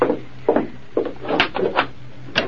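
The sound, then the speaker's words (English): A lock clicks and rattles in a quick series of wooden clunks, followed by the front door of a general store being pulled open at night, with no talking. “Open up, Lem. Open the door.”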